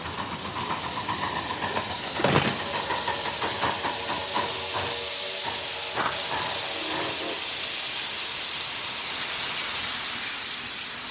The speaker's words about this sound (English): Come on up aboard the train.